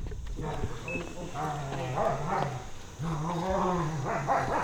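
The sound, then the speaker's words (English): Two big dogs, an old German shepherd named Maisie and a big golden, bark and yelp almost continuously at a house in Scott County, East Tennessee, their loud, overlapping calls rising and falling with no clear break. “Dogs are going to attack.”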